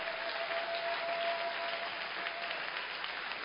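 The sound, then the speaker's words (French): A church audience breaks into steady applause for the word of God, a dense wash of many hands clapping at an even level throughout, with no voices standing out. “Est-ce que nous pouvons éclairer la parole de Dieu par nos applaudissements?”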